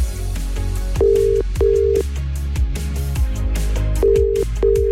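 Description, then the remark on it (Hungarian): A telephone line rings out as a radio host calls a listener's chosen recipient during a live request show: paired bursts of a steady electronic tone, two double rings separated by a pause, heard clearly over a low, busy background of music-like sound with no one talking. “Tehát, hogyha megadod nekem a címzett telefonszámát, akkor én rácsörgök, és átadom neki a te személyes üzeneted.”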